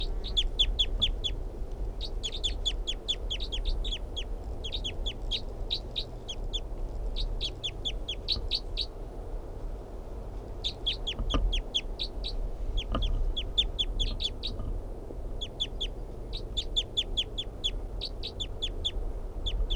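wild bird calling

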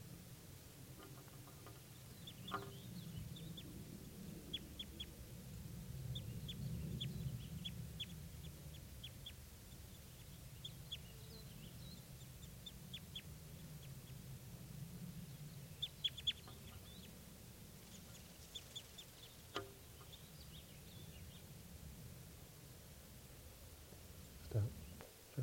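birds calling

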